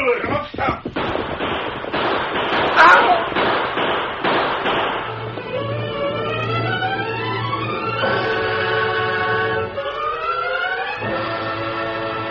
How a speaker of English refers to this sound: As Greg Morgan heard the shooting out in back of the restaurant, he rushed outside.